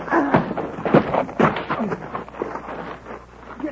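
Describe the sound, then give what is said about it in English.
Several heavy punches land in a fistfight with Hickok, dull thuds coming a few at a time in an uneven rhythm, with rough scuffling noise between the blows and no talking. “You'll have to hit harder than that, like this.”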